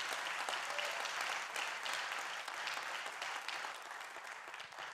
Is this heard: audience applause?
yes